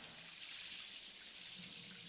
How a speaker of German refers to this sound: Als ich dann endlich doch was gehört habe, waren es ganz normale Aufstehgeräusche. Erst die Klospülung und danach die Dusche.